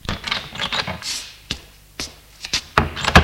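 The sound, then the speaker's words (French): An apartment door on the first floor of an apartment building being opened: a series of sharp clicks and knocks from the latch and handle, mixed with brief scraping and rustling, with no voices. “Entre au premier et ouvre une porte d'appartement.”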